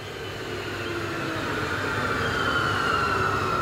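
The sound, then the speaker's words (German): An S-Bahn train rumbles steadily past at Himmelreich station in the Black Forest, Germany, on the line from Freiburg im Breisgau through the Höllental to Titisee-Neustadt; a broad low roar with rising high-pitched squeal from the wheels, growing slightly louder over a few seconds; no one speaks. “Die S-Bahn-Station Himmelreich liegt auf der Bahnstrecke, die von Freiburg im Breisgau durch das Höllental nach Titisee-Neustadt führt.”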